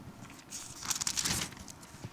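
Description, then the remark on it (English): Book pages being turned to chapter 10: a soft papery rustle swells for about a second, with a few crisp flicks near the middle, then fades into quiet. Fairly gentle, no voices. “Apologies in advance for any paper cuts incurred over the course of this study.”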